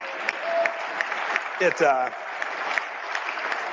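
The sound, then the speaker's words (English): Steady audience applause for former CIA director Mike Pompeo fills the whole stretch, a dense crackle of many hands clapping, with a brief voice rising over it partway through. “And now, you know, he gets applause for this.”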